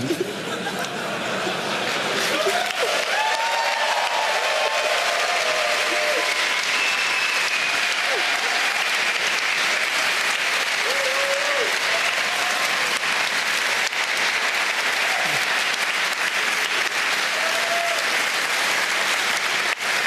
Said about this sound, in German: Ich muss dazu sagen, das ist ein sehr, sehr besonderer Moment für mich. Ich stehe vor 1000 Leuten und ich bekomme Applaus für meine Musik.